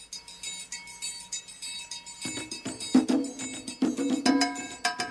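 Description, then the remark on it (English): A bright metallic bell rings out a steady, repeating pattern on its own, then hand drums and low percussion join in about halfway through, building a layered West African-style groove. “The bell, the underpinning of many rhythms in West Africa.”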